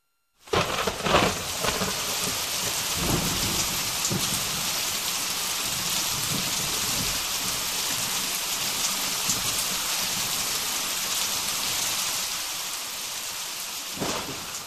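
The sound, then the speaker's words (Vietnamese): Heavy rain in Saigon, Vietnam, pours down steadily, a dense, loud roar of large drops pattering hard on surfaces, with a low rumble of thunder underneath and no voices. “Cơn mưa ập tới, hối hả với những hạt to tướng.”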